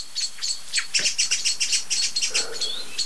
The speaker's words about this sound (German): Richtig laut. Wie ich finde. Und es ist nicht nur eine Amsel oder eine Singdrossel. Es sind jetzt viele, ne? Jetzt kommt der Pyrol, setzt sich ganz oben auf die Krone, über die ganze Glocke von Alarmrufen.